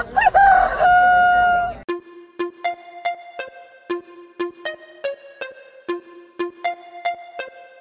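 A single loud, close rooster crow rings out for about two seconds, then gives way to a steady, bouncy run of short plucked musical notes repeating in a quick rhythm. No one speaks.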